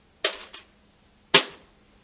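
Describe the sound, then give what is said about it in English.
Two small coins, the widow's two mites, drop into an offering box about a second apart, each a sharp, bright metallic clink; the first gives a quick second rattle as it settles. No voices. “Imagine how she would have felt putting those 2 mites in the box after somebody came up and dumped big sack of coins in there.”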